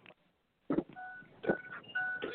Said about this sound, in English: Looks like this caller may have pressed the one by accident.